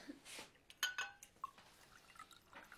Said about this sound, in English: You clink my glass. You're empty. Let me fill you up.